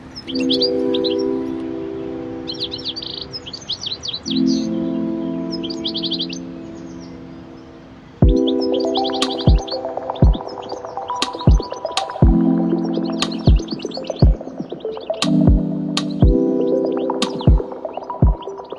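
Bursts of high, rapid bird chirping repeat over a steady droning tone, and from midway sharp clicking knocks punctuate the twittering at irregular intervals.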